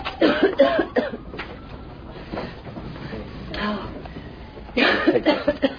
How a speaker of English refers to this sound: Hey, she's coughing her lungs out and you're blowing the shit in her face all day.